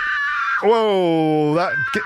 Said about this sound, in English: Whoa, that gave me a shock. Did you hear that? Did you hear that scream? That was on the podcast, folks, okay? That wasn't in the real world. Before you can begin your story, you hear an ear-splitting scream. Now, that definitely made me jump.